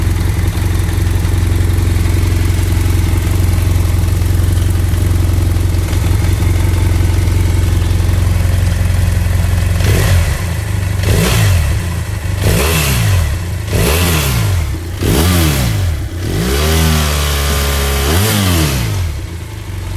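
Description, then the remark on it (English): An F800 GS parallel-twin adventure motorcycle engine idles steadily, then is revved in a series of sharp blips, each rising and falling in pitch, with no one speaking. “Was clearly a parallel twin, not a boxer engine, and one of the most fuel-efficient, underrated adventure bikes out there, in my opinion.”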